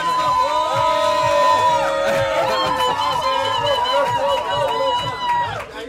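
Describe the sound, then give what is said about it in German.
A crowd cheers and shouts loudly and continuously, many voices overlapping in a dense roar with rising whoops, holding steady for several seconds before dropping off abruptly at the end. “Ich sehe schon, der jubeln die Leute schon.”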